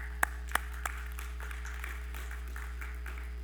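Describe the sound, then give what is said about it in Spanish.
Audience applause, faint and steady, opening with three sharper claps before settling into a soft, continuous patter of many hands over a low constant hum. No one speaks. “Un aplauso.”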